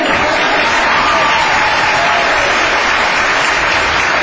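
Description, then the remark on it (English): Steady applause from an audience for Superintendent Carter of the CUSD school district, a dense, even wash of many hands clapping at once, loud and sustained throughout with no pauses and no talking over it. “Applause.”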